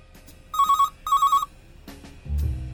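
A telephone rings twice in a classic bell-like double burst, each ring trembling with a rapid warble, clear, followed by a low thud and some rustling movement.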